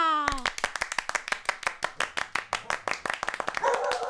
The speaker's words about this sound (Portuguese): Recebam com palmas e alegria a onça pintada!